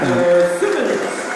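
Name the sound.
basketball crowd cheering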